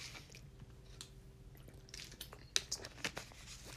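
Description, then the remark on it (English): Someone bites into a meal of hash browns, eggs and pancakes, followed by soft wet chewing with a few sharp crisp clicks in quick succession, all fairly quiet and with no one talking. “So, you know this bite you just heard right now?”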